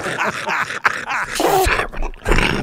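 A rapid string of harsh, raspy coughs, loud and wet-sounding, spliced together in quick bursts with brief breaks between them, some dropping into deep, growling hacks.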